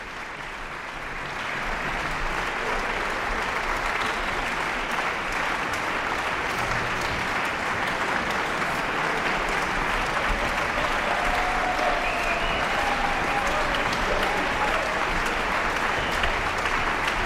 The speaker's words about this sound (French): Des applaudissements bien mérités pour ces deux artistes, ces deux solistes, avec des échanges de regards sans cesse.